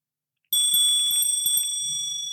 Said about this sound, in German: So, pass auf. Ich muss hier mit der Glocke arbeiten, ne?